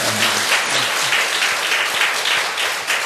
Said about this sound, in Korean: 손 내리고, 예, 박수 한 번.